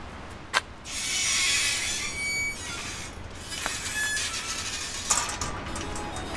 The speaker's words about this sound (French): quartier de la Madeleine à Albi, rue Porta, entre deux bâtiments imposants, se trouve un passage fermé d'un portillon grinçant.